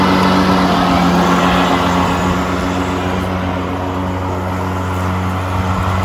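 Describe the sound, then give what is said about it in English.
A lawn mower engine runs at a steady, loud drone with a low humming pitch, holding constant for several seconds with no voices. “And then if you want, when you want to mow, you do the same sequence. You push the green button.”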